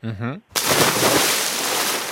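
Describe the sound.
A short voiced sound, then a sudden loud splash as something small jumps into water, followed by about a second and a half of steady churning, sloshing water noise.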